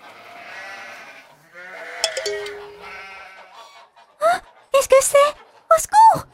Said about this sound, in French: It's a tiny baby lamb.